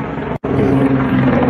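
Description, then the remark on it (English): A loud, continuous jet-engine roar with a steady low droning hum from a jet plane tumbling down in a flat spin, broken by one abrupt, split-second dropout before the rumbling noise resumes at full strength. “So it you know, you can see it just tumbling down in a flat spin.”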